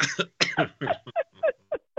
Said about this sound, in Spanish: Sorry, ya le dio tos a mi querido doctor.